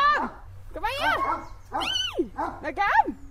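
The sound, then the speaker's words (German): A dog whimpers softly in four short, high, wavering whines, one after another, over a faint low hum, while limping along behind. “winselt leise und humpelt hinterdrein.”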